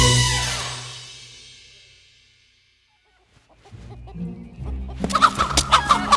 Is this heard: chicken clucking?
yes